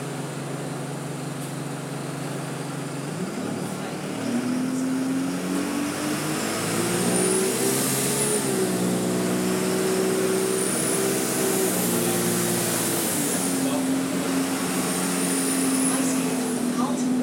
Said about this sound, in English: Maybe we're not there yet. We're stopped in traffic.